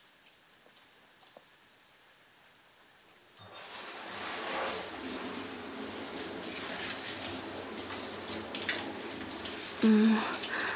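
A few soft drips, then water suddenly gushes on and runs steadily, like a shower rinsing off soap foam, continuous until the end, with a brief soft vocal sound near the finish.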